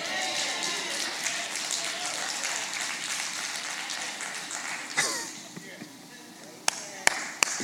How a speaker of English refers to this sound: You're the only one to clap. I want to say that again, and maybe a few more of y'all will clap too.